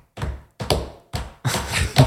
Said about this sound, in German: Man hört nur die Leute trampeln, aber man hört keine Musik und jeder, deswegen habe ich es auch so unrhythmisch gemacht, jeder trampelt in seinem eigenen Takt